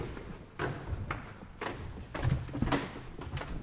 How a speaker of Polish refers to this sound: Przeszliśmy już przez ciężkie drzwi i przez furty, dostaliśmy się do środka.